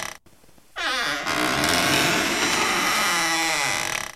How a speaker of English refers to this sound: I heard that there was a door, right? That was supposed to be a door opening. It was some sort of squeaky sound.